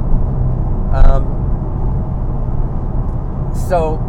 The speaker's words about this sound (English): I got to get around a big truck here. I'm just going to pass this guy.